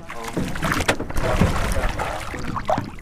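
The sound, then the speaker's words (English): A ferryman rows a rowboat across a river estuary in Bulungula, the river swollen and muddy from heavy rains. Water sloshes and splashes steadily around the hull, with a continuous rushing, breezy wash in the background. “The ferryman's muscles strain and ripple, and he clenches his teeth as he rows across the river.”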